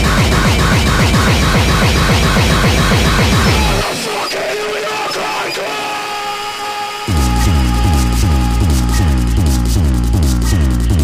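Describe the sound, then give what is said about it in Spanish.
Loud, extremely fast speedcore, one of the first speedcore cuts, played on The Bass Drum Radio Show, with a relentless barrage of distorted kick drums and harsh, grinding guitar noise; the kicks drop out briefly for a noisy breakdown, then slam back in. “uno de los primeros cortes speedcore que se recuerdan y que creó escuela de ritmos, de gabber, de bombos, de distorsión, de guitarras.”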